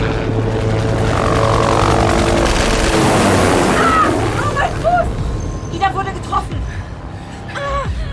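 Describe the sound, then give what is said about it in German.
A loud, steady rotor roar of a helicopter fills the air, swelling as it sweeps overhead and then easing off, with brief strained vocal cries rising over it near the end. “Der Hubschrauber muss drehen, bevor er wieder schießen kann.”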